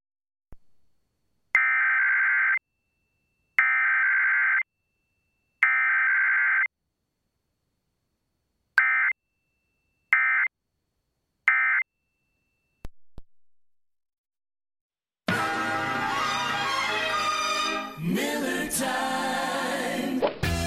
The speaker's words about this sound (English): are testing equipment that can quickly warn you during emergencies. If this were an actual emergency, an official message would follow the alert tones you are about to hear. This station serves the counties of Baldwin and Mobile. This is only a test.